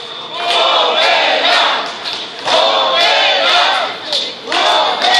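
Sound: crowd chanting and shouting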